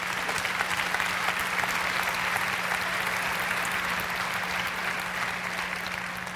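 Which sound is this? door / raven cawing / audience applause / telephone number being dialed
audience applause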